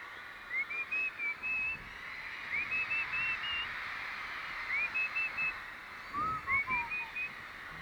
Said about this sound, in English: I think we're having a bit of trouble with Paul's amplifier, so I'll just whistle to you for a bit.